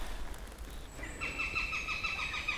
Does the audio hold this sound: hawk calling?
yes